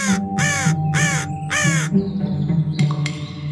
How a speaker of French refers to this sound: Nous sommes toujours dans le Maine-et-Loire, à côté de Savenières, on n'est pas très loin d'Angers. Je suis toujours un oiseau très commun, un corbeau, un corvidé, au centre de recherche et de protection des corvidés